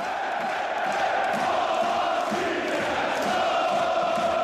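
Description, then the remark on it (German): Fans of the Danish football club Brøndby Copenhagen chant steadily in unison in a large stadium, a dense wall of many voices sustained at an even, loud level throughout with no pauses. “Die Fans von Brøndby Kopenhagen. Sie gelten als fanatisch, lautstark und stimmungsvoll.”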